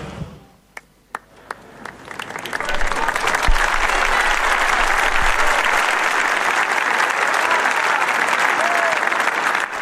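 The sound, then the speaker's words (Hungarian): A few scattered claps at first, then a large crowd breaks into sustained, loud applause greeting the Pope after his Latin blessing, swelling and holding steady as a dense, crackling wash of clapping. “Lassan visszaszokunk mi is ehhez a búcsúzáshoz, a tapshoz és a Szentatya köszöntéséhez.”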